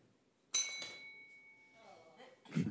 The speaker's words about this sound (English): A bell.